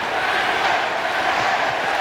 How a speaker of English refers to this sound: Give a listen. Crowd is chanting safe.